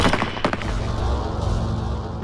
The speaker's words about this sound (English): The deafening explosion of the 8 rifles was the last thing Ahmed heard.